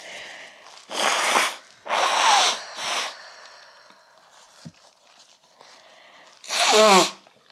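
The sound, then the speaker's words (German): Someone blows their nose in several loud, noisy bursts: three forceful blows in quick succession, a quieter stretch, then one last long, rasping honk. “Ich muss jetzt mal meine Nase putzen.”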